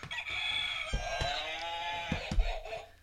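A novelty trivia game answer buzzer goes off with a loud, warbling, rooster-like crow, its pitch rising and falling over about three seconds, with a few sharp clicks along the way.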